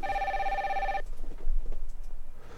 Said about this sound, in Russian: У нас есть телефонный звонок. Сейчас, одну секундочку.